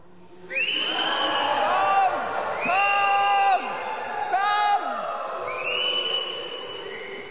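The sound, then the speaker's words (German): A crowd imitates a loud storm with their voices, a swelling mass of overlapping howls and wails that rise and fall in pitch, holding steady for several seconds before tapering off; a speaker loudly calls out "komm" during it. “Ich würde gern wünschen, dass ihr einen lauten Sturm bitte nochmal macht.”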